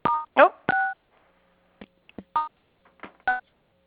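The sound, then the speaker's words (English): Short two-tone telephone keypad beeps from dialing star 6 to mute a phone line, a few separate presses spaced irregularly, fairly loud, mixed with brief clicks and fragments of voice between them. “Yeah, I think you can do star 6 on this line.”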